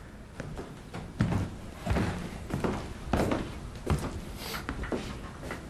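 A door is pushed shut, giving a series of dull, heavy thuds and knocks spread over a few seconds against a steady low background hiss, with no voices.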